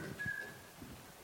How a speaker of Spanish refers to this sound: Yo hay veces que amanezco silbando un cántico.